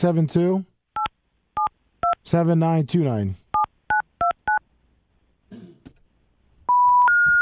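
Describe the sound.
A telephone keypad dials a quick series of about seven short two-tone beeps in an irregular rhythm while calling a store, with bits of speech in between, followed by a longer steady tone at the end.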